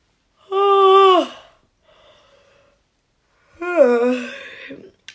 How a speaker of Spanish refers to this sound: Y así seguían los niños contando sin cesar, hasta que oyeron un bostezo enorme. Era don Holgorio, que bostezaba.